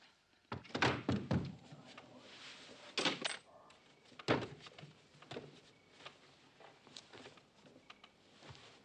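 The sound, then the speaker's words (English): A door thuds shut amid a series of heavy knocks and bumps, with a quick cluster of impacts early on and a few more spaced thumps after, with faint rustle between. “Come on, open up. All right, I'm coming.”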